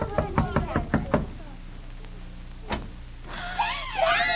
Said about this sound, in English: Oh, just knock at the door and you'll find out. Go ahead, knock.